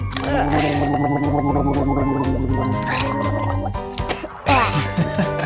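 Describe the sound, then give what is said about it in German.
Several people gargle and gurgle through a mouthful of a liquid mixture containing birch sugar, ending in a sudden wet burst as it's spat out, with voiced sounds mixed in throughout. “Okay, wir spucken kurz aus”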